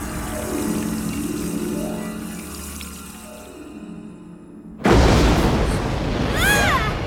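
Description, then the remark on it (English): A drop of thick, gloopy golden potion pours from a flask into an ear and slides down in low, wobbling sweeps, then a sudden loud rush of hissing noise cuts in with faint chirping tones above it. “Pours a drop of the gloopy golden liquid.”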